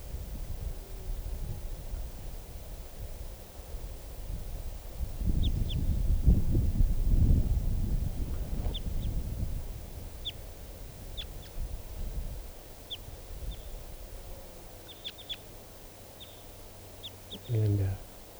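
wild bird calling

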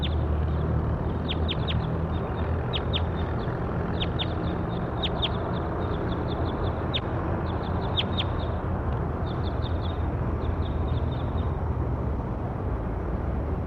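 bird call field recording

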